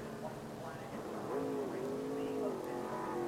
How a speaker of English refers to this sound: Here at the Talladega Super Speedway, some cars coming off the pit lane that have all kinds of damage to them and making their way back out.